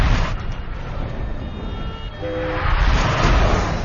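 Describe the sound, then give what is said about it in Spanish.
Trains rumble through a large underground metro station at Alexanderplatz in Berlin, Germany, in a steady, echoing roar. A brief tonal whine rises midway, and the noise swells louder toward the end, with no voices. “Incluso hay uno bajo esta gran estación de metro.”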